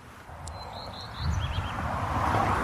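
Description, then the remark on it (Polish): A common redstart, a small bird related to the black redstart, sings thin, high song phrases faintly over the steady low rumble of a car passing, the engine noise swelling midway and holding to the end. “Pleszka to jest taki mały gatunek ptaka, podobny do kopciuszka.”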